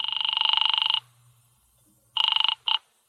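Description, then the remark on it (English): A telephone rings down the line with a buzzing, warbling tone after a number is dialed: one long burst, a pause, then a second burst cut short by a brief chirp as Feinberg's Delicatessen picks up. No one speaks. “I dialed it and waited.”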